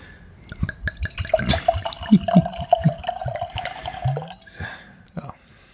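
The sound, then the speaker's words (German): Red wine trickles and drips into a glass, a series of small liquid splashes and a steady pouring sound, with people talking over it. “Oh, aber da, es tröpfelt.”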